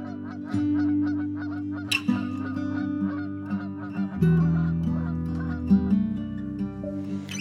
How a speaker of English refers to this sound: Skies all open wide, geese go high and over.